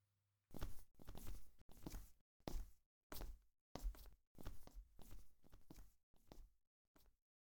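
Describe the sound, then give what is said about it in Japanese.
Footsteps walk steadily across the floor toward the bathroom, about ten broad steps in an even rhythm with short pauses between them, no voices present. “それじゃ、一緒にお風呂に向かいましょう。”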